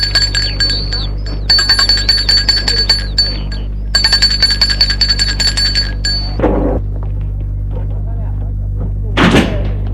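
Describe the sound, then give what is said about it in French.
A doorbell rings in two long, rapidly trilling bursts with a bright metallic tone, followed by a pause and a couple of dull thumps. “Sonne à la porte.”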